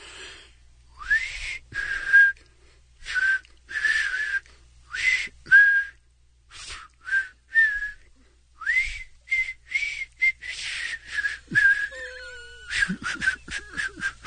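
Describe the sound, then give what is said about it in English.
A song melody performed mostly by breathy blowing with a little humming: a rhythmic string of airy, whistle-like notes separated by short pauses, ending in a quicker run. No talking. “A lot more blowing than humming in that one, by the way.”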